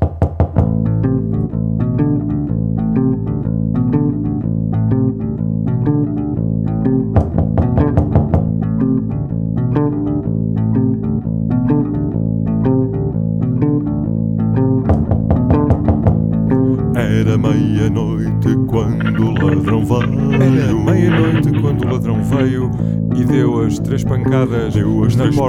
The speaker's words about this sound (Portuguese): Vamos então continuar a ouvir as canções